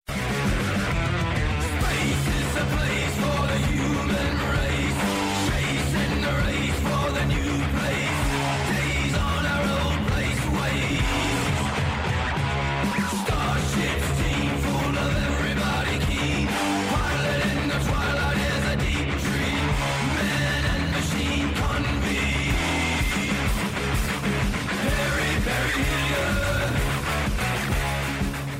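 A loud, dense stretch of rock music plays without a break for about half a minute, with a steady driving beat and thick, distorted-sounding instruments filling the whole range.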